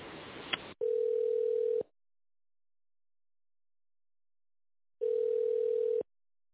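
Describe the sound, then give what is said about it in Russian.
A phone ringback tone while waiting on hold for an employee to answer at the company Stepinform: two steady, mid-pitched beeps about a second long, separated by several seconds of silence, following a short burst of hissy line noise. “Вы дозвонились в компанию «Степинформ». Дождитесь ответа сотрудника или отправьте факс.”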